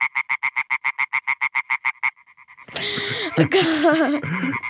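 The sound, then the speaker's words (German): A European tree frog calls: a rapid, evenly spaced run of loud, nasal, rasping pulses that fades out after two seconds and gives way to a burst of noisy, jumbled sound. “Einen Frosch haben wir noch, den europäischen Laubfrosch. Der klingt so.”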